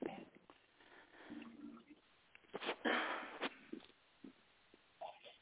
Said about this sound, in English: I had to blow my nose. Would you let me blow my nose on air?